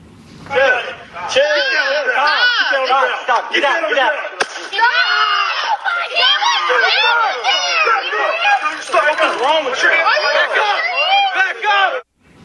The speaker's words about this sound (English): You're going to see the teen's hands are in the air, and one of the officers tases him, and it sparks a near riot.